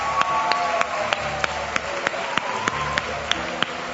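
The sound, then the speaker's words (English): An audience claps their hands to vote for Christmas tree number one as the best dressed Christmas tree, a dense steady patter of many overlapping claps with sharper individual smacks standing out, moderately loud and sustained throughout, with a faint murmur of voices underneath. “How many of you think tree number one is the best dressed Christmas tree? Clap your hands!”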